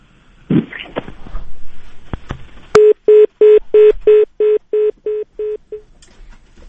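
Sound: dropped phone call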